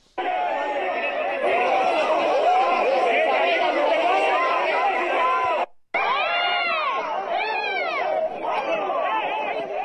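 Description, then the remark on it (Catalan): A crowd protesting against the presence of the king during a Policía Nacional charge: a dense, loud roar of many voices shouting and screaming, cut off abruptly for a moment, then resuming with piercing high cries rising and falling. “Si li pareix, anem a escoltar una d'aquests moments en què la policia feia aquestes càrregues.”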